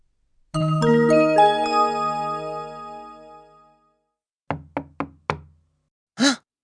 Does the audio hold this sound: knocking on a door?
yes